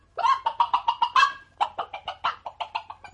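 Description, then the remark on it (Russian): Hens cluck in a chicken coop in a quick, steady series of sharp, nasal pulses, with a brief pause midway before the clucking resumes, fairly loud with no talking. “И курочка даже моргнуть не успела, как очутилась в королевском курятнике.”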